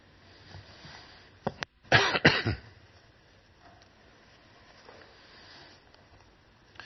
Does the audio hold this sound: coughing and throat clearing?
yes